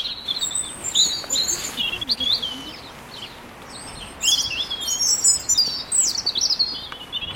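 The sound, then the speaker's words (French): Several small birds chirp and twitter back and forth, a robin among a group of sparrows, with bright overlapping calls coming in bursts over faint outdoor background noise. “Discussion avec un rouge-gorge qui discute avec ses copains, les moineaux.”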